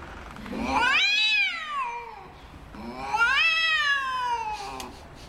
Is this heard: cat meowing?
yes